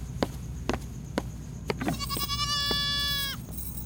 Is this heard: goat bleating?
yes